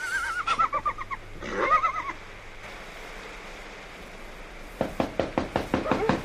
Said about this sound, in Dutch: Enfin, daar is die herberg. Geef me een roffel op de deur, net als de vorige keer